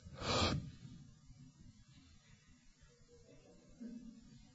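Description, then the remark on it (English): A speaker holds their breath, then breathes out in a single sharp, forceful burst into the microphone, then everything falls quiet for several seconds apart from a faint low background hum. No one speaks. “See, you can say nothing when you hold your breath, can you?”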